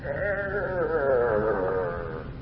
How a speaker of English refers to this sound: And then suddenly you hear a noise that freezes your blood. You hear the sound of the door of one of these family crypts creaking open.